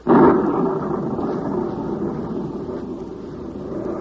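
A loud roll of thunder from a storm coming up over a banana plantation bursts in abruptly and rumbles on steadily for several seconds, a deep, broad growl that fades only slightly. No voices are heard.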